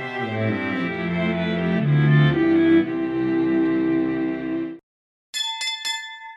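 A long, sustained ringing tone shifts in pitch, then cuts to silence before a bright bell is struck three times in quick succession, clear, with no voices, sounding from a red brick house.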